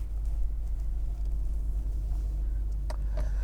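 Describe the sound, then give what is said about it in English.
A car's engine rumbles low and steady, as if heard from inside the vehicle, as it pulls slowly out of a driveway, with a couple of faint clicks near the end and no talking. “Let me get out of my driveway, and then I'll tell you all about all the fun things.”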